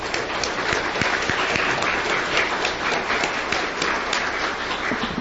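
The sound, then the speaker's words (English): A crowd applauds steadily for about five seconds for two men leading a feast committee, a dense wash of many hands clapping at an even, sustained loudness with no voices over it. “So if we can give them a round of applause.”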